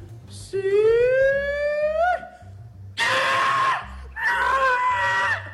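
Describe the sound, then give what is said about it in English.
A contestant's pig-calling yell at a pig-calling contest, with no pigs nearby: one long, rising wail, then two loud, raspy, strained shouts after short pauses, with no other voices around them. “Now, what I don't understand is there are no pigs nearby, so we don't know if these pig calls actually work.”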